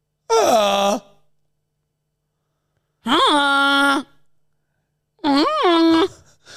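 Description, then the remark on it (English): Three loud, nasal honks made by a human voice imitating a goose, each lasting about a second with a slight rise in pitch, separated by short silences. “Do your best honk.”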